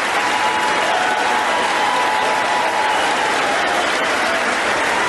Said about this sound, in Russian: Аплодируют стоя таким словам Байдена, но это ничего не поменяет, скорее всего, да,